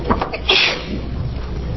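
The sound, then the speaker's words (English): A single sharp sneeze bursts out during a legislative committee public hearing, a quick breathy explosion that cuts off abruptly, followed by quiet background noise. “Excuse me. Bless you.”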